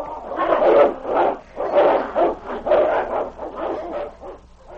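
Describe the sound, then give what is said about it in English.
A dog named Nipper barks fiercely in a rapid, steady string of loud, rough barks and snarls running for several seconds with no one speaking, as he springs out of a cave with a fierce growl to meet a wolf. “Nipper sprang out with a fierce growl to meet the nearest wolf.”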